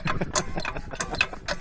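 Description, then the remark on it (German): A hand water pump being worked hard until water starts to flow, giving a fast, steady run of scraping, ratchety metallic clanks and squeaks, several strokes in quick succession at moderate loudness with no voices. “Man muss mit äußerster Brutalität gegen diese Pumpen vorgehen.”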